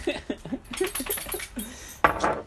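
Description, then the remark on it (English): A dog lets out a rapid series of short, yappy barks and whines, then a sharper, louder bark bursts in near the end. “Bad dog.”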